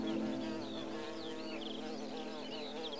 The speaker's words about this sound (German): Du hörst das Summen der Bienen und das Singen anderer Vögel.